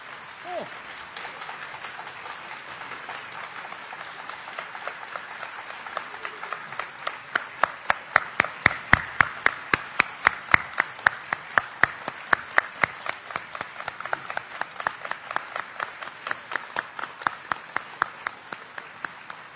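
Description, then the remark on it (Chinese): A large audience at Beijing Deyunshe applauds steadily to welcome crosstalk master Zhang Wenshun onstage for his 70th birthday, a dense wash of clapping that swells midway and becomes rhythmic, with sharp unison claps keeping time for several seconds before loosening again. “我们用最热烈的掌声请出我们的老寿星， 嗯， 相声名家张文顺先生。”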